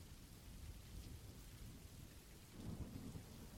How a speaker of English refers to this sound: You know how it's been raining for the past week and you've been stuck here?